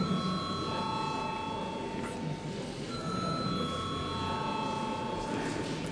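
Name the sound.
parliament voting bell ringing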